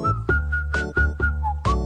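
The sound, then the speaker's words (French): Several people whistle a bouncy song melody together in short repeated phrases, fairly loud, over a steady low instrumental backing with rhythmic beats. “Allez, on siffle.”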